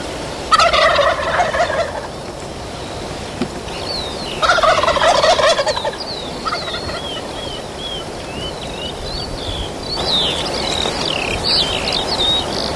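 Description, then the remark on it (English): Two loud turkey gobbles ring out a few seconds apart, then a fainter third, in the dark on the Kealea Ranch during a hunt, over steady insect chirring and small birds twittering in the background. “It's too dark for video, too dark to see the turkeys, but you can hear them.”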